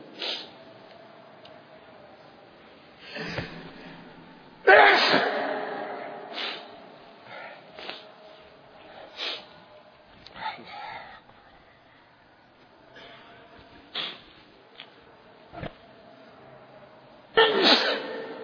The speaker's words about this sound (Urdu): کہتے ہیں یاد کر دو کچھ چھینک مارے تو یاد کرتا ہے, عجیب بات ہے.